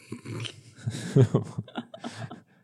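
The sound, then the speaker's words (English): A dog, Bowser, responding to a door opening, makes low grumbling, snorting vocalizations with heavy breathing, a short agitated burst of growly huffs rather than full barks, with no talking. “Let's wait for the door to open and then we should be golden.”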